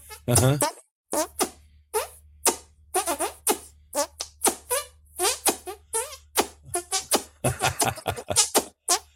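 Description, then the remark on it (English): A person fart boxes with their hand: rapid, rhythmic hand-made fart noises played like a beatbox, a long string of short squelchy bursts, with a steady low hum underneath and no talking. “One of my greatest musical talents is I can fart box. So I play my hand instrument here.”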